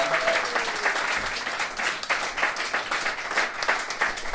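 A crowd applauds steadily for several seconds, a dense, even wash of many hands clapping with no single voice standing out.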